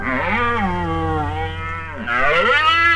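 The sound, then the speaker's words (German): A red deer stag roars during the autumn mating season: a long, deep, guttural bellow that sinks in pitch, then a brief break and a second rising groan, loud with no talking. “Das ist ein Hirsch. So röhren im Herbst die Männchen zur Paarungszeit.”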